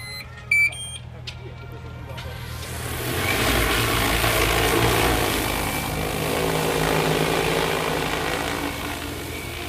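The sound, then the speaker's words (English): A few short electronic beeps, then a large agricultural spray drone's propellers spin up into a loud, steady whirring drone that rises and holds, with a faint wavering pitch. “So normally with these drones, you're looking at 6 meters high.”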